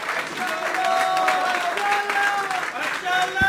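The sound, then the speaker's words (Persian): Sustained audience applause, a dense steady wash of many hands clapping at an even level for several seconds, with a murmur of voices mixed in underneath. “مرسی، تشویق کنید.”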